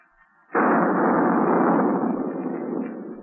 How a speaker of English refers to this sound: How in tarnation did that gun go off by itself?